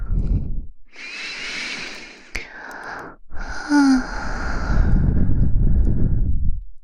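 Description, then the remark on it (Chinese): A soft, airy breath blown into the ear, heard as two long hissing exhalations, the second steadier and longer, with no talking. “你看，就对着吹了一口气，脸更红了。”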